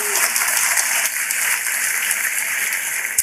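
Steady, dense applause from an audience after a birthday greeting, a continuous wash of many hands clapping at an even loudness for the whole stretch, with no voices heard over it.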